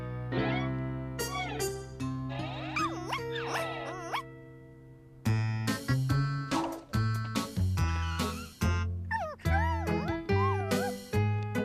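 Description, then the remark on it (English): A young female puppy yips and whimpers, with wavering high-pitched whines early on followed by a quick run of short, sharp barks in uneven bursts. “What a sweet little puppy you are.”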